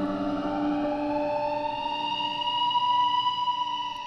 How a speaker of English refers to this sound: I can usually tune out the sound of sirens in the distance, but that summer night, the sound persisted. It got louder and louder, and my bedroom was suddenly flooded with flashing lights, red, white, red, white.